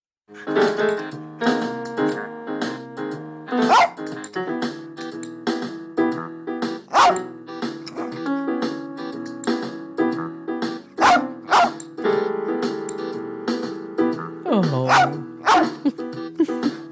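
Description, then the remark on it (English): A small, blind rat terrier barks in sharp bursts while playing rhythms on keyboards set up on the floor, over a steady musical backing track; a person briefly exclaims once. “That is your dog, Lolabel, your late rat terrier, Lolabel, from Heart of the Dog.”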